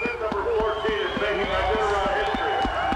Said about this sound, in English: Bib number 14, hear the crowd. Dallas is nearing the arch. Here he comes with his team. And he has finished the 2014 Iditarod.